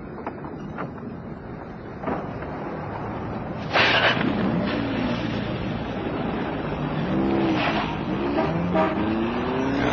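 A woman's car engine runs steadily, then revs and climbs in pitch as she pulls away and accelerates, with no voices.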